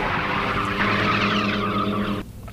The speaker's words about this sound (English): It is a hail cannon that I saw in action. It protects peaches at a farm in South Carolina from thunderstorms and hail.